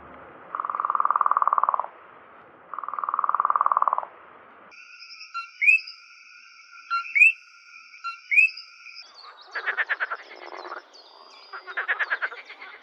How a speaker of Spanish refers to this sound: ¿Esto te suena? Las ranas pueden sonar muy diferentes dependiendo de la especie